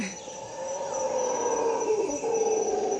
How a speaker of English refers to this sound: Les singes hurleurs du Costa Rica